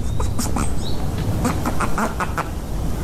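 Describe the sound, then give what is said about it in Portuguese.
A rapid series of loud, nasal duck quacks imitated by a person repeats for a few seconds, with no talking. “Mesmo que o pato é o mais realista.”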